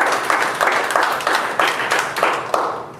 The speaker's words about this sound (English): Do the Lord have applause in the house?